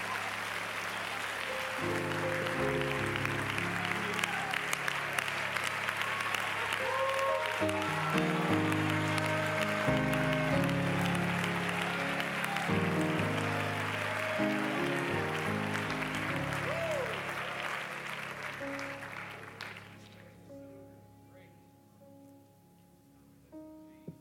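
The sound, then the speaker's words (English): A crowd claps steadily for about twenty seconds, a dense, loud wash of hand claps over sustained keyboard chords, then the applause drops away and the music lingers faintly. “With that in mind, clap again and just rejoice in that kind of knowledge.”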